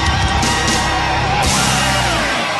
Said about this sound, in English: And as always, the crowd goes wild with joy at the beginning of The Mark Gunger Show, the show that discusses all things concerning marriage.